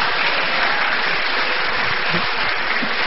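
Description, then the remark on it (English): Steady audience applause, a dense wash of many hands clapping at an even, fairly loud level, with no voices rising above it for the whole stretch. “Give me an applause.”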